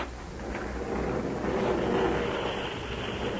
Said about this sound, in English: There's an airplane flying around this room. You are right, Jerry. That is a small airship of the type employed in your world. And imagine a room big enough to fly one of those things around.